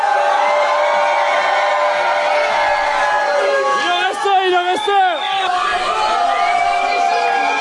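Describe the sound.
A concert crowd cheers and shouts loudly and without letup, with a few high whoops swooping up and down partway through. One voice calls out briefly over the din.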